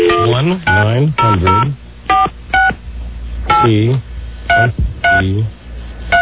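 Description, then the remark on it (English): A series of short, clear telephone keypad tones dialing a 1-900 phone sex line number, each beep crisp, with someone talking in between and over some of the presses. “1-900-T-E-E-T. Here we go.”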